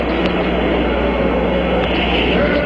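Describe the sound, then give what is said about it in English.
A loud, unbroken roar of the Apollo 11 rocket engines at liftoff, dense and rumbling across the whole range, holding steady for the full stretch with no voices over it. “All engine running. Liftoff. We have a liftoff.”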